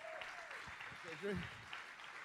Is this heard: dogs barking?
no